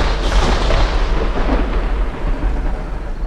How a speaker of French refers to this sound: Un unique coup de tonnerre frappe violemment le sol.